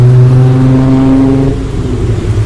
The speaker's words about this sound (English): Jake was looking at a car that was pulling over to the curb.